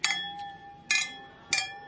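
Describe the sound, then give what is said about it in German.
Beer glasses clink together three times in a toast, each bright strike ringing out with a lingering tone before the next, fairly loud with no talking. “Verborgene Schönheit heute. Prost. Prost. Prost. Prost.”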